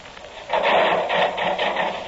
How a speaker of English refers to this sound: Yeah, start the saw going.